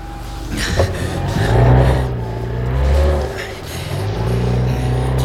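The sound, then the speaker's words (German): A motorboat engine is started and rumbles loudly, its deep drone rising and falling as it revs up, eases off, then surges again, with no voices over it. “werfen Sie den Motor an!”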